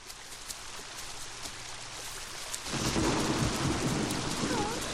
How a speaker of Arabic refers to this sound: فعلاً يا أصدقائنا الحلوين، راحت النملة تتجول لوحدها في الغابة، وفجأة وهي تمشي بدأت السماء تمطر مطراً شديداً.